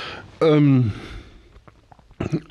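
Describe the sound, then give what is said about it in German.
A single loud burp lasting about half a second, deep and voiced with a falling pitch, followed by quiet mouth clicks and a short murmur of voice. “Entschuldigung, ich muss aufstoßen.”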